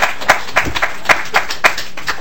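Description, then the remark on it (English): Scattered applause from a small group at a public hearing on Minnesota's state budget, following a speaker's testimony, with sharp, uneven claps rising out of a steady patter of softer hand claps for a couple of seconds, and no voices. “We don't need to clap our hands.”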